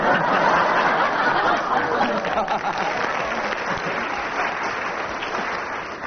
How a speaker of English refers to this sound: Two lots of applause for you